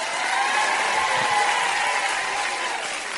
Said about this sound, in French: Du bruit également, cher public venu nombreux ce soir pour applaudir